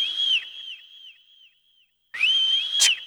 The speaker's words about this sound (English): Get you if you don't blow that whistle. Blow that whistle. Blow that whistle. Blow that whistle. Blow that whistle.